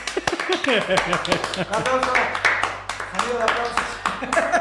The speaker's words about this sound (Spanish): Aplausos.